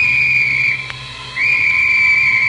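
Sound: train whistle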